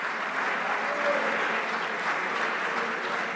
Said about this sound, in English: Can you clap your hands to the Lord? I feel the Holy Ghost. Come on, clap your hands to the Lord right now. Come on, are you desperate enough to keep clapping?